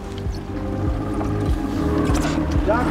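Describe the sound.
A skiff's motor drones steadily and fairly loudly as it heads out to sea with its lights and radar turned off, with a low rhythmic chugging and water sloshing around the hull, while faint, indistinct voices sit under the engine noise.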